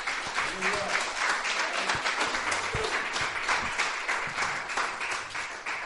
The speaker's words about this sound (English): Praise the Lord. Give the Lord a cheer, folks.